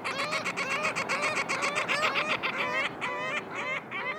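A flock of ring-billed gulls at Lake Osakis, Minnesota, on a hot summer day calls nonstop, their harsh, overlapping cries layering into a loud, busy chorus with no pauses and no voices.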